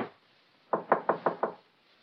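Five quick, evenly spaced knocks on a judge's door, moderately loud, with brief quiet before and after and no voices.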